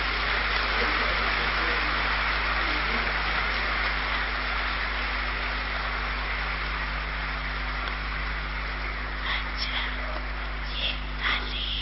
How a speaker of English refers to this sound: You like this? You like this? Then you may clap.